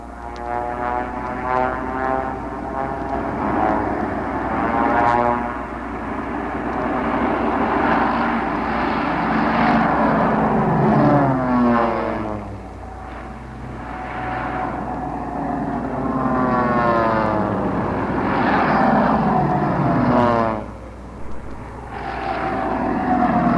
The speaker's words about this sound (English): Here they come. The section is heading toward our microphones. Listen to the power dive.